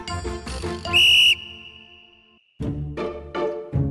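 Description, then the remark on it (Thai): A whistle, meant for emergencies, is blown in one short, loud, shrill blast, its tone lingering and fading afterward, surrounded by busy bright tinkling and musical sounds before and after. “จำเอาไว้นะนกหวีดเนี่ยมีไว้ใช้ยามฉุกเฉินเท่านั้นถ้าเป่าเล่นเวลาจำเป็นจริงๆคนอื่นอาจไม่เชื่อเราได้จ้ะ”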